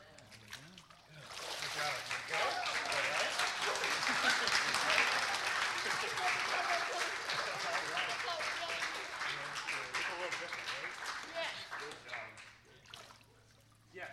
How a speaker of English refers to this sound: Certainly celebrate that. I did not say clap away. Clap away.